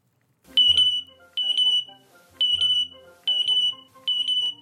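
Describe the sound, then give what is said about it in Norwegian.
A parrot named Jazz mimics a smoke alarm with five loud, shrill electronic-sounding beeps in a steady rhythm, each lasting under a second with short pauses between, clear with no talking. “Den lyden du hørte der er papegøyen Jazz.”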